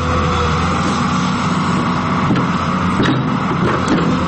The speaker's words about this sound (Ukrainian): Осінню тишу розбиває потужний гуркіт двигуна. Екскаватор старанно вичерпує пухку землю, формуючи прямокутний простір. На тренувальному кладовищі, що у німецькому місті Мюннерштадт, триває практичне заняття.